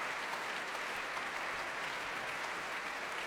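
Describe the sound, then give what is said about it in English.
A large audience in the Royal Albert Hall applauds as Pavel Yervy, the Orchestre de Paris and Janine Jansen take the applause, a steady, dense wash of clapping hands with no breaks, sustained and even in loudness throughout. “Pavel Yervy brings the Orchestre de Paris to its feet as he and Janine Jansen take the applause here in the Royal Albert Hall.”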